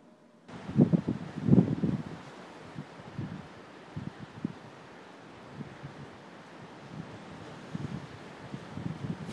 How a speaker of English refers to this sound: Can you hear the sound of the wind and the waves in the background? It goes on all day, this storm.